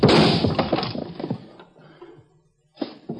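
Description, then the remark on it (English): A lamp is smashed in a loud crash of breaking glass, with scattered pieces tinkling and clattering as it fades, then a brief second clatter near the end. “So you smashed the lamp.”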